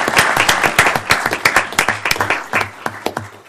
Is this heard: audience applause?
yes